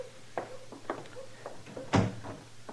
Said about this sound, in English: Close the door, Chester.